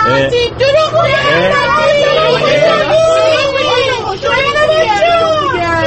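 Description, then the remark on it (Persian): Dense chatter from many young school students fills a bus on a Rahian-e Noor school trip, loud and continuous, with overlapping talk, laughter-like bursts and a low engine rumble underneath throughout. “خب الان سوار اتوبوس راهیان نور هستیم.”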